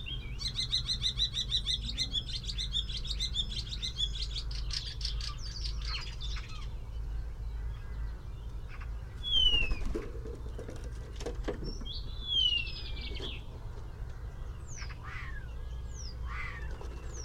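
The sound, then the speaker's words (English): A rambling, varied common starling song with mimicry: rapid chatters, clicks, buzzy rattles and sliding whistles, delivered in bursts over steady low background hum, with no one speaking. “So it's the starling.”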